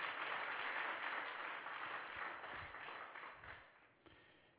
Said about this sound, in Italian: Ok, facciamo un forte applauso al Signore, il meraviglioso Gesù.